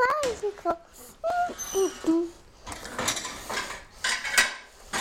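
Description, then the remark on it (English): Dishes and cutlery clatter as plates are put in the dishwasher, a busy run of sharp, bright clinks and scrapes, with a child's high, sing-song voice sounding at the start before the clattering takes over. “Now, let's all that in the dishwasher.”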